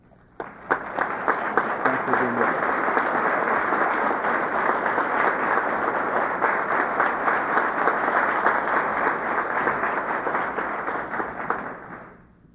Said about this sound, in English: And while they are standing, Would you audibly welcome them with a round of applause, please?